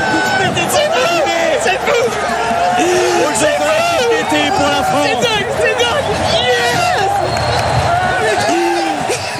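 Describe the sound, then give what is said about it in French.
A large crowd cheers loudly and without pause once the finish line of a BMX Race is crossed, as French riders Joris Daudet, Romain Mailleux and Sylvain André take gold, silver and bronze, many voices shouting and whooping at once, with excited yells rising and falling over a dense roar. “Un podium 100% tricolore avec une explosion de joie, vous l'avez entendu, une fois la ligne d'arrivée passée, des larmes de bonheur.”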